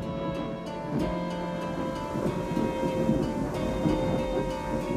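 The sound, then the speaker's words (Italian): A low, sustained rumble of thunder from a lightning strike rolls steadily through the whole stretch, loud and dense with deep bass, with a faint hiss like rain beneath it and no voices. “E io mi sento oggi di chiamare questo fulmine mio testimone.”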